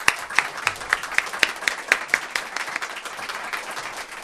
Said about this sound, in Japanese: さあ、それでは早速今回のエキスパートをご紹介いたしましょう。経済評論家の勝間和代さんです。大きな拍手でお迎えください。